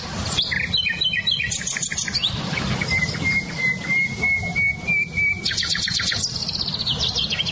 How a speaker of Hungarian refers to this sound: nem csak a fülemüle hallatszik ki, hanem például a fekete rigó, csilcsa füzikének nagyon erős hangja van, vagy barátposzátak